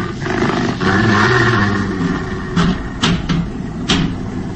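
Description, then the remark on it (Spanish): A deep, rough growl from a large beast rumbles continuously up close, followed by a few sharp scraping or snapping bursts near the end, with no voices. “Confundido entre las sombras de la noche, no puede saberse si es un perro hambriento, un lobo que ha bajado desde las cercanas montañas en busca de alimento, o un extraño y siniestro lobo humano.”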